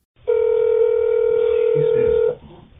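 A steady, loud telephone dial tone hums unbroken for about two seconds, then cuts off, leaving faint low background rumble, as a phone call is placed to a man's mother.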